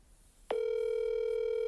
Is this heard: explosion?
no